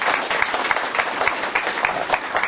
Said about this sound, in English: Indeed. Please give all of our panelists a round of applause.